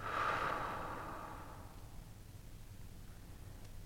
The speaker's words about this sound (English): And breathing in and breathing out. Just being here as a witness. And last breath, breathing in and breathing out.